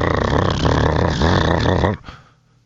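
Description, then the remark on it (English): A Ford F-350 truck's 6.7-liter Power Stroke V8 turbo diesel engine hums with a deep, loud, steady rumble for about two seconds, then cuts off abruptly, leaving only a faint low murmur. “equipped with a 6.7 liter power stroke V8 turbo diesel engine”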